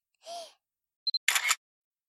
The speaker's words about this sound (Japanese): はにゃ、シャッター音がするとチンポビクビク動くにゃん。どういう現象にゃんこれ。